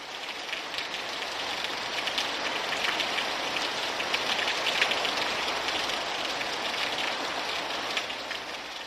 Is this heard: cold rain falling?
yes